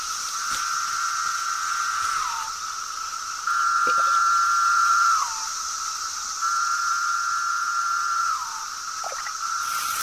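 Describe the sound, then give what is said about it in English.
A swarm of cicadas in a forest drones with a constant high-pitched buzz, while three long buzzing calls rise above it, each ending in a brief downward slur. No voices are heard. “And still the cicadas come.”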